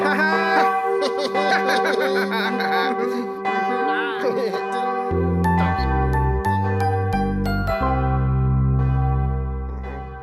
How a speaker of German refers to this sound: Klingt eigentlich ganz hübsch, so eine Glocke.